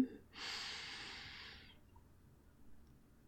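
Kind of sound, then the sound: human body sound, deep inhalation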